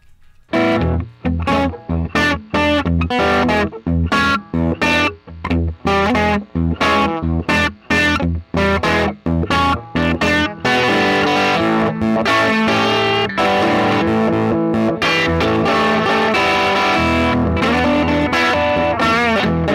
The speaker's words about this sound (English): I'm going to play a little bit of guitar.